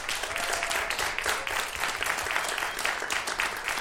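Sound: audience applause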